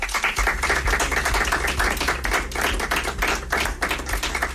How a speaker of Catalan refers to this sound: Ha estat l'única rebuda amb aplaudiments quan Emma Suárez ha donat a conèixer la tria. Aquesta era el moment.